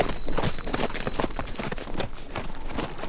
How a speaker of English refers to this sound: As we walked our horses to the street, we heard a woman's laughter and the strum of a banjo.